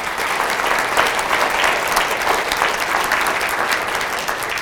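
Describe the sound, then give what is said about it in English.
Steady, sustained audience applause with dense overlapping claps, loud and even throughout, with no voices standing out above it. “If we could just have a round of applause for the people who've made it happen.”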